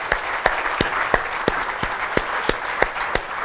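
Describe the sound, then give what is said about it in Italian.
An audience applauds two guests invited onto a stage, with a dense wash of steady clapping, a few sharper individual claps standing out in an irregular beat, holding an even loudness throughout with no voices. “Invito a salire sul palco i nostri prossimi due ospiti, ai quali invito a fare un applauso ai nostri ospiti.”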